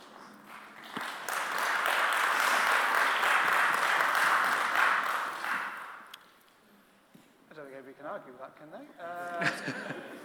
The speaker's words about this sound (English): Do you get a round of applause? You got a round.